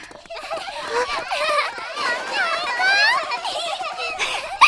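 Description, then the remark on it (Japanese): Several children shout, squeal and laugh while playing, a lively overlapping chorus of high voices that carries on steadily at moderate volume, with a brief louder burst at the end. “元気な子供たちね。”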